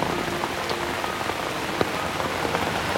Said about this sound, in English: I'll keep the rain off of you.